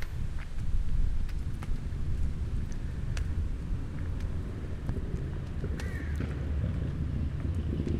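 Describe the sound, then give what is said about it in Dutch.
Steady low rumble of passing cars on streets near Parklaan in Halle runs through the whole stretch, a dense continuous roar with a few faint clicks and brief higher whines rising over it. “Ik hoor nu wel auto's.”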